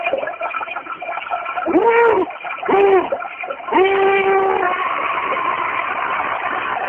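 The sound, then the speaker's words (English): Liquid splashes and gurgles into metal underwear worn by a man, with three short bursts of hollow, ringing resonance over a steady hissing background. “He'll be pouring that liquid into his metal underwear.”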